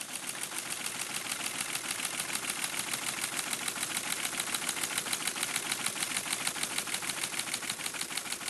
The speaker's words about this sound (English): We couldn't get enough of those math drills because it meant dialing up to the central computer, putting the handset of the telephone into the cradle of the teletype, and watching this big clunky machine whirl into action.